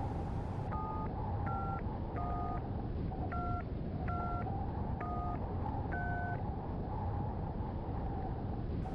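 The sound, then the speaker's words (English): Seven quick touch-tone beeps as a phone number is keyed in, each a short dual-pitched tone in an uneven rhythm, heard over a steady low rumbling hum with no talking. “Let me make a call.”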